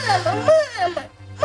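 A child cries in wavering, high-pitched wails, several sobbing bursts that rise and fall, with a short break before one more cry starts.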